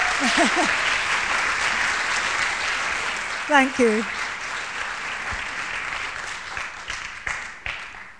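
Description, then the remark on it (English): Steady applause from an audience clapping to encourage the girls about to speak fills the whole clip, a dense patter of many hands clapping at once, with a brief spoken thanks rising over it partway through. “So before we start, can we just clap and encourage the girls?”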